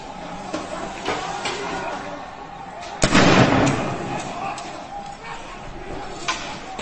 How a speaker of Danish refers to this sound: Det var så et skud, man hørte her, og så kan vi så høre, at personen, der optager videoen, sidder og står og taler